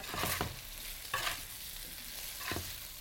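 Steady sizzling of food stir-frying in a hot frying pan, broken by three brief scraping bursts as it is stirred and tossed. Moderately loud, with no talking.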